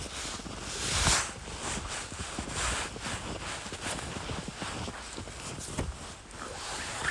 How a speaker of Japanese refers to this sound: こんな感じ、雪の音ね、パウダースノーで気持ちいいですね。